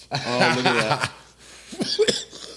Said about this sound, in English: About time I coughed.